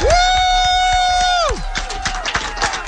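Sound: applause and cheering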